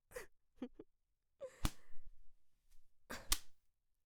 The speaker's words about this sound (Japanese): この鞭、今日のために新しく作ってもらったやつだから。そう、つまりあんた専用のやつ、女王様の彼女に専用の鞭作ってもらったんだから光栄に思いなさいよ。